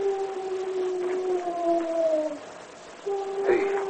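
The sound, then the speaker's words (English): A drawn-out, hollow owl hoot, used as the Lone Ranger's signal to Tonto, glides slightly downward over about two seconds, pauses briefly, then starts again, clear and steady against a faint background hiss. “It's an owl outside. Tonto had heard the same sound, but he knew it was the Lone Ranger's signal to him.”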